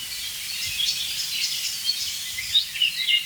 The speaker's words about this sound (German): Und auf jeden Fall jetzt eine sich aufregende Amsel, die wirklich empört ist, muss ich sagen.